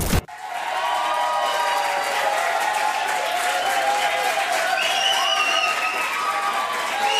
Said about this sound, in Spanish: Palmas, palmas y más palmas y palmas de pie, porque hoy lamentablemente, sí, una leyenda, don Antonio, la Tota Carvajal